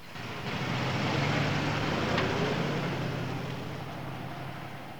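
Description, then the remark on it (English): A car engine hums steadily beneath a broad wash of road and exhaust noise, swelling slightly before gradually fading as the vehicle pulls away. No voices are heard. “Colombo watches the car depart with a cigar between his teeth.”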